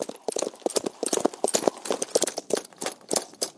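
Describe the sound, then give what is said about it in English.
Horse hooves clip-clop in a brisk, steady rhythm as Chester rides up on horseback in a hurry. Each hoof strike is sharp and distinct and moderately loud, with no voices over them. “Imagine taking a horse to come this far.”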